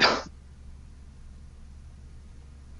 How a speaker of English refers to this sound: sorry, I started to cough there.